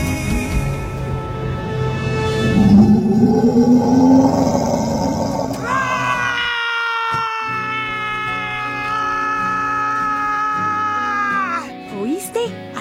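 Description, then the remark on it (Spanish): A rising, growling roar builds over a few seconds, then breaks into a long, loud, strained howl that holds steady before cutting off near the end. “Vaya chica, qué forma de rugir.”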